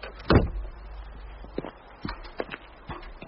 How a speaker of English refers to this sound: Come on, Frank, let's get the door shut.